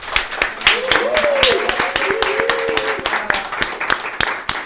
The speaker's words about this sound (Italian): e ringraziamo anche tutti coloro che sono venuti appunto dal Trentino oggi a trovarci i nostri ospiti di oggi. Un applauso!